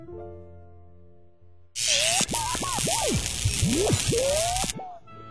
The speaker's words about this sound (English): Thanks, but they're already in the dishwasher. Is your dishwasher on? Yes, it is. I can't believe it. Your dishwasher is much quieter than mine. It's new.